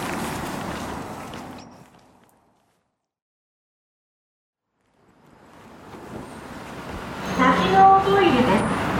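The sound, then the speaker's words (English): Rumbling subway station noise fades to near silence, then a train's roar swells back in, with footsteps and a brief metallic squeal as it grows loud. “Man, I just experienced a subway station magic trick where I got into the subway station, and this station doesn't, trains don't go very frequently, even though holiday hours, I believe, are over at this point.”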